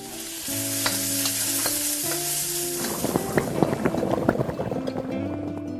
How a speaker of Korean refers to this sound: 사실 죽을 쓰는 것은 그리 힘든 일이 아니다. 달궈진 냄비에 참기름을 살짝 두르고 불린 쌀을 볶는다.